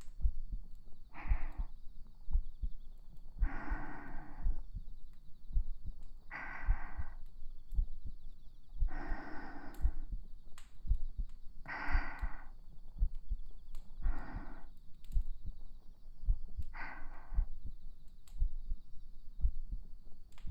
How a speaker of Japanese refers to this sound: 心音は、聞く相手の気持ちをとても落ち着かせてくれるというお話です。